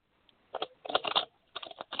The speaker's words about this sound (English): Yeah, would you like a spirit animal card? Oh, sure, that'd be great. Okay, I'm just going to shuffle the cards really quick.